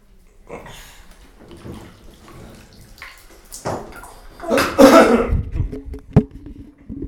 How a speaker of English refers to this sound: Oh, you're doing the splashes. Do it again. There you go. Splash. Okay, that's enough.